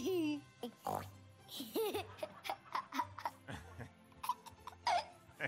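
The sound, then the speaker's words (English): A child's voice imitates a pig, making a series of nasal oinking and snorting sounds, mixed with little giggles and short vocal bursts. “Chicken, cow, a cow, and pigs. Me.”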